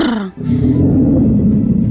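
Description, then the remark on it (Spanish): A voice imitates a bear's roar: a short breathy rise, then a deep, rough growl held loud for over a second, with no other sounds around it. “Se abre el telón y aparece un oso haciendo”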